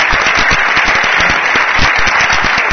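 Loud, steady applause from a crowd, a dense wash of many hands clapping at once with no pauses, sustained throughout and no voices standing out.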